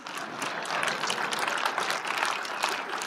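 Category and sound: crowd, golf clap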